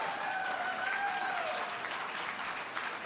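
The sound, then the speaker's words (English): A crowd applauds steadily for a few seconds, dense clapping with a high whistle-like cheer rising over it early on before the clapping carries on alone, cheering a county's investment of more than $12 million in its historic parks and its new Park Ranger program. “You can give a cheer to that.”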